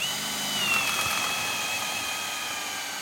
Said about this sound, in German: Die Zimmerer bohren in ein neues, helles Balkenstück, das in einen alten Balken eingesetzt ist. Zusammengehalten wird das Ganze mit Eisenstiften.